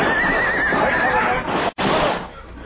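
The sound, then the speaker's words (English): Horses whinny and neigh in distress as they go down on a canyon floor under high-powered rifle fire, loud over a dense, noisy commotion, the shrill cries wavering before a sudden brief cut, then the rough din continues. “Our horses went down, and the six of us were trapped on the canyon floor.”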